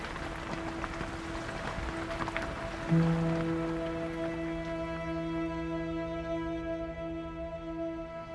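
Steady rain patters in a soft, continuous hiss. A few seconds in, a low sustained hum and ringing tones rise over it, and the rain fades gradually beneath them.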